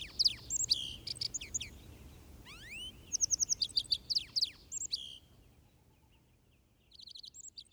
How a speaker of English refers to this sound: The lark sparrow, a melodious jumble of clear notes and trills.